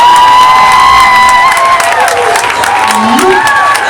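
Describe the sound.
A crowd applauds and cheers loudly for several seconds, steady clapping under rising whoops and shouts, with a few high voices calling out over the din.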